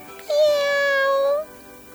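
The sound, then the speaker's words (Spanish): A single drawn-out kitten meow, clear, rising slightly then holding steady for about a second before fading, with no talking around it. “Es un gatito que hace...”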